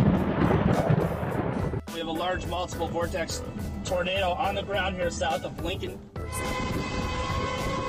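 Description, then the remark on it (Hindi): A loud, roaring thunderstorm in several US states facing tornadoes and strong windstorms, with rumbling thunder and blustery wind, fills the opening seconds, then a voice speaks over lingering noise, followed by a steady tonal hum. “America की कई रियासतें एक बार फिर बिफरे हुए मौसम की लपेट में हैं, जहां लोगों को टॉर्नेडो, तेज हवाओं के तूफान और ज्वालाबारी का सामना है।”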